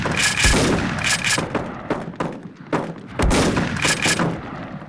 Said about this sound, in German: Jeder Herr nimmt seine Mütze, wirft sie mit aller Kraft in die Luft und schießt im Fluge nach ihr. Mit 5er, 6er oder 2er Schrot, je nach den Bedingungen.